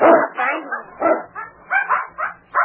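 A puppy barks and yips, about half a dozen short, high-pitched bursts in an uneven, excited rhythm, with a few whimpering notes between them.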